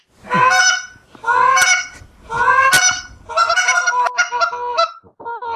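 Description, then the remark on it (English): Someone blows a goose call held close to the microphone, producing four loud, nasal honking blasts in quick succession, with short breaks between them and a fluttery final run, with no talking. “Well, if I was a goose, I would be all over you.”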